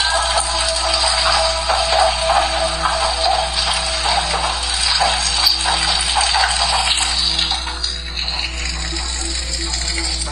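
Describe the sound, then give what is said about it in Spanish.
Rain falls in a steady, dense hiss with scattered small patters, held over a constant low electrical hum for the whole stretch, easing slightly toward the end. No one speaks. “Hay que tomar en cuenta que está lloviendo, ¿eh?”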